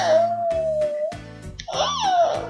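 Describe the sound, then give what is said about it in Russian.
A young child's voice imitates animal sounds: a long, drawn-out dog-like cry, then a short pause and a rising-and-falling cat meow, both loud. “А как собачка гавкает? А котенок как мяукает?”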